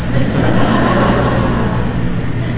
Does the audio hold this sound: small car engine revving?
yes